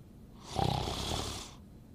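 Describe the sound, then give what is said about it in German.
An elderly woman, a grandmother, snores once while asleep, a rough, rasping breath lasting about a second that swells and fades, with no talking. “Die schläft manchmal vor dem Fernseher ein und schnarcht.”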